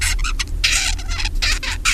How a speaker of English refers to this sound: So young birds learn their song in a series of stages. They start out, just as humans do, by babbling. And here's what a babbling bird sounds like.